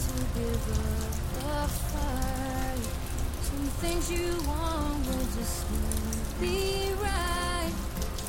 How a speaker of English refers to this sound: It is Monday, November 17th, 2014, almost 6:30 in the evening, here in Sarasota, Florida, and we're getting some rain.